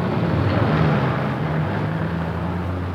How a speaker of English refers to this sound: The bustle of traffic.